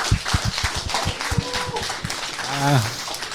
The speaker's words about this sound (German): Ja, danke, dein Applaus nochmal, ne? Also, das war doch cool.